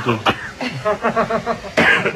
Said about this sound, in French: Pourquoi on tousse ? Ça doit être le sésame. Ou la moutarde, peut-être.